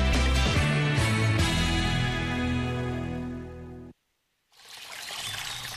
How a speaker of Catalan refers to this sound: Així sona una bona hidratació. Així sona l'aigua del Parc Natural del Montseny. I des del 1976, Font Agudes protegeix la seva puresa perquè tu en gaudeixis cada dia.